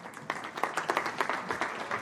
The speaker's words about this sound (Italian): Un bel applauso per loro.